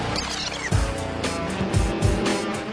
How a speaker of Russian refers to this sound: Мотор. Моторы.